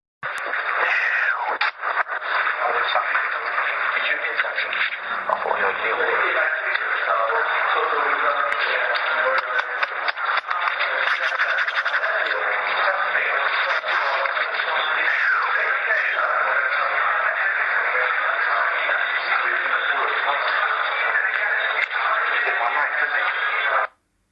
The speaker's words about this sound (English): That's something also which was quite common, which it seemed to do. Tapping, shuffling, rubbing noises on the recorder.